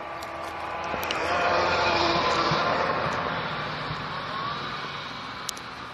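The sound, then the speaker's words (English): A car drives past outdoors on icy ground, its rough, rattly engine noise swelling as it approaches, peaking briefly, then gradually fading away. “There's a car that sounded really bad.”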